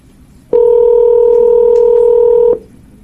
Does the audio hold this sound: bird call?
no